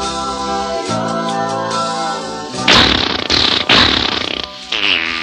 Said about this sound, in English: Sir, I take the utmost exception to your farting before my wife. Sorry, I didn't know it was her turn.